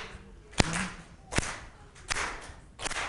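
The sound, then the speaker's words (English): A crowd claps together in time, four crisp, loud hand-claps at a steady, unhurried beat, each a sharp crack with quiet murmuring noise in the gaps between. “But can you bring it to clap in this time, like?”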